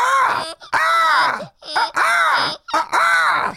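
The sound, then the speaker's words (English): Four loud, harsh squawking calls in quick succession, each wavering and drawn out with brief gaps between, sounding like people screeching in imitation of seagulls during an ASMR recording in a garage. “Oh no, some seagulls flew in the room.”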